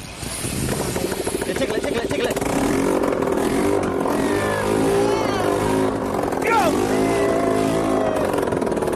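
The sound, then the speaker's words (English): A small engine roars loudly and raw, as if running without an exhaust, a steady harsh rattling drone that holds for the whole stretch with slight rises in pitch. “Who needs an exhaust? All right. Meant to make a noise.”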